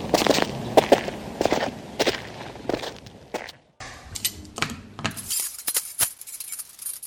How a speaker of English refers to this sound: That's a pretty hefty chain.